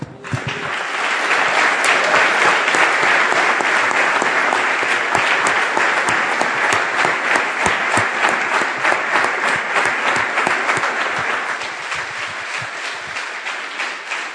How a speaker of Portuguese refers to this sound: Temos aplaudido a Jesus hoje, mas podemos aplaudir o Espírito Santo.